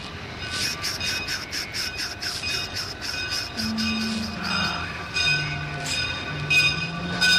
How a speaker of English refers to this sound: Oh, the train is coming. I love trains.